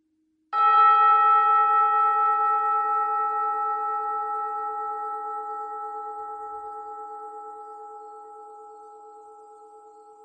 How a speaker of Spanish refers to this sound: Escucha el gong hasta el final y date unos segundos antes de retomar tus actividades.